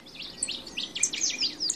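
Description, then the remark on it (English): A chorus of high, rapid bird chirps and twitters overlapping continuously, several migratory birds calling at once at a summer breeding ground in Alaska, a recording from Bernie Krause's archive, moderately loud with no voices. “Of a summer breeding ground for migratory birds in Alaska.”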